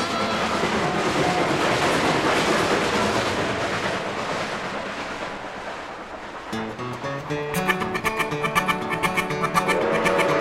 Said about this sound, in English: Chugga, chugga, chugga, chugga, chugga, chugga up the hill. Puffin' and a chuggin', you know that engine will reach the summit and go down the other side.